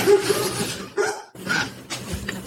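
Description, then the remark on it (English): A dog barks at the mailman in a rapid string of about four loud, harsh bursts, insistent, with no talking over it. “See, dog doesn't trust me. Dog doesn't trust me.”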